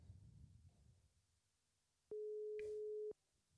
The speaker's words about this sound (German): So, jetzt probieren wir es mal. So. Mal schauen, ob es klingelt. Ja, es klingelt.